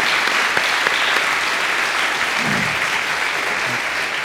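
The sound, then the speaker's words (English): A round of applause from a crowd for the children who sang and led them that morning, steady and loud throughout, with dense overlapping claps and a brief low murmur of voices partway through. “You left before I could tell you publicly thank you, but I do think we ought to give them a round of applause for their leading us this morning.”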